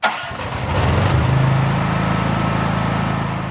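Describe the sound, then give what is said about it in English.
A gas-burning generator, of the kind used in shops and homes in Kabul, Afghanistan, to provide power, sputters to life and settles into a steady, loud mechanical drone, its low harmonic hum rumbling evenly with no voices present. “And then there are thousands of gas-burning generators in shops and homes across the city to provide power that the government cannot.”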